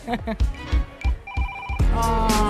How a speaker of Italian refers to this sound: A qualcuno suona il telefono? Pronto?